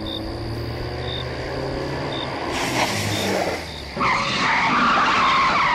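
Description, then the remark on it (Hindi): A car engine drones steadily before tires screech loudly in a hard skid, the harsh squeal swelling, briefly breaking, then returning with a grinding rush as the car brakes hard to a stop. “राजवीर ने जोर की ब्रेक मार के गाड़ी रोकी।”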